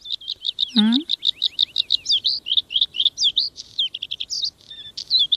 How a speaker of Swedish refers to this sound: Ja, jag gillar blåhaken till exempel. Det är en väldigt vacker sång, brukar ju även kallas förr i tiden för fjällens näktergal, så att den är ju känd för att kunna sjunga vackert.